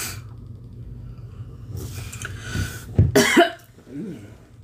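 A person coughs, a few harsh, throat-clearing bursts in quick succession over a low background rumble, followed by a brief vocal sound.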